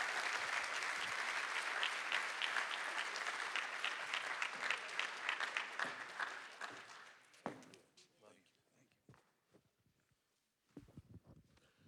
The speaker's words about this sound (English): Would you guys give a big Parkway, big round of applause